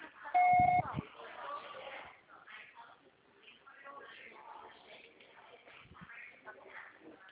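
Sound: voicemail recording beep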